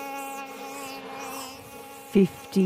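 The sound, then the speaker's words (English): A dense, steady drone of a honeybee swarm of about 50,000 bees buzzing inside the wall of a 100-year-old farmhouse, continuous and even, with two brief louder bursts of sound near the end. “But when they found some honeybees in the attic of their 100-year-old farmhouse, a thermal camera revealing that monster is kind of real.”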